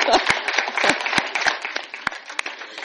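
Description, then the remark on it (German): A church audience applauds the technical team steadily, a dense wash of many hands clapping with a few sharper, louder claps standing out, sustained for a few seconds without pause. “Ein Applaus für die Technik.”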